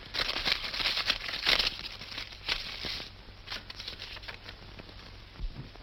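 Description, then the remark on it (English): Dry paper rustling and crinkling, busiest in the first half, as an envelope is torn open and a sheet of paper unfolded, then quieter scattered crackles. “His envelope has been opened and resealed.”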